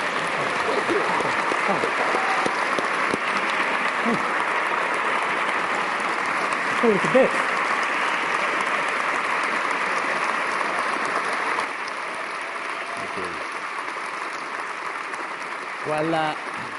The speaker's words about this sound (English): Would you join me in giving a round of applause to both our guests today? Thank you.